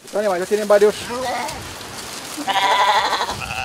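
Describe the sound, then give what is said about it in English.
Goats bleat in a few short, wavering cries at the start, on a farm co-op raising cows and goats on green slopes of the Andes Mountains in northern Colombia, before a steady rain-like hiss and outdoor rustle take over. “raises cows and goats on these green slopes of the Andes Mountains in northern Colombia.”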